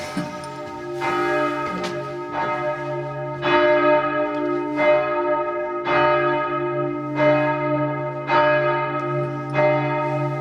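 signal or alarm, church tower bells ringing

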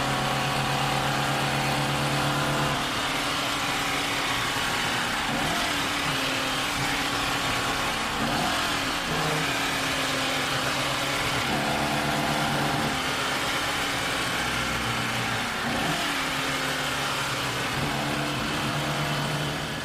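vehicle, car engine revving

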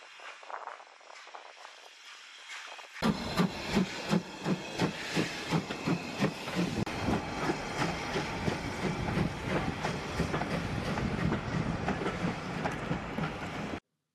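vehicle, steam train departing

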